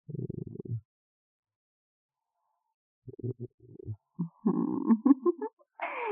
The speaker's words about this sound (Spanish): Este ronroneo en mi gatito de angora.